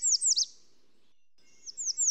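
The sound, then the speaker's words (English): An American redstart, a small warbler, sings two short bursts of high, emphatic, slurred notes, separated by a second of quiet. The song is clear, with no voices. “But that song, that really emphatic song, is a redstart. I'll put one in so people can hear it.”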